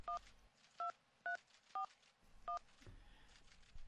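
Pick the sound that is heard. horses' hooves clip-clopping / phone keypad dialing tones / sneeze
phone keypad dialing tones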